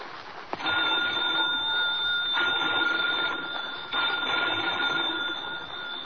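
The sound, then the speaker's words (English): A telephone bell rings loudly and continuously after a brief click in the dimness of an old lighthouse, its harsh metallic jangle sustained without pause for several seconds, insistent, with no voices. “Phone bells ringing urgently in the dimness of the old lighthouse.”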